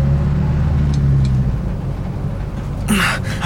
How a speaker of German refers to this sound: Die drei Verbrecher liefen nun mit dem Koffer zum Transporter und stiegen vorn ein. Kurz darauf wurde der Motor angelassen. Zunächst ging es die lange Straße an den vielen Studiogebäuden entlang.